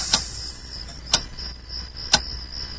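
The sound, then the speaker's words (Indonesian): A wall clock ticks three times at an even one-second pace at night, each tick sharp and clear against a quiet background with a faint steady hiss. “Suara jam dinding yang berdetak bisa kudengar dengan jelas.”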